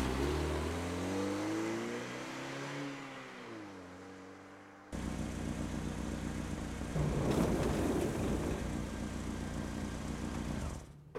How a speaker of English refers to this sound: You go ahead and pull the car up around the other side of the concession stand.